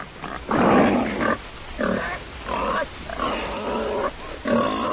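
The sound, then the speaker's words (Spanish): A lost pig grunts and snorts in a series of five loud, rough bursts with short pauses between, the first one long and raspy, no voices present. “Una sirvienta buscaba el día del Viernes Santo un cerdo extraviado.”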